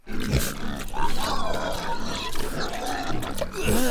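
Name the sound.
pigs grunting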